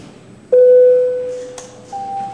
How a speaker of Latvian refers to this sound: Deputāti lūdzu balsojumu, lūdzu zvanu.